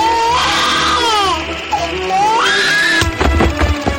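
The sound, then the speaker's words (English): A baby wails loudly and continuously, its high, strained cry rising and falling in long screaming bursts, then breaking into choppy, sobbing gasps near the end. “A screaming infant is deflected from a cement wall and allowed to land in the sorting area.”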